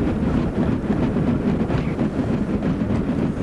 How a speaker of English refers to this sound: Well, that's Arctic sea ice. It sounds like a motor engine. Yeah, that last part reminded me of someone trying to start an old truck or a tractor. Yeah, or even like a propeller or something.